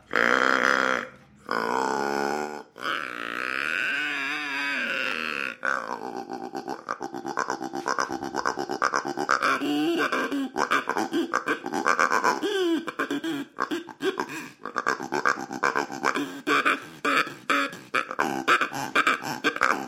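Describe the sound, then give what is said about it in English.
A mule deer grunter call, which sounds like a bass duck call, blown over and over, giving deep, buzzy, belching grunts: a few long drawn-out notes, then a quick run of choppy, rhythmic bursts, loud throughout and with no talking. “Deer grunter, a mule deer grunter. But it sounds like, you know, a bass duck call.”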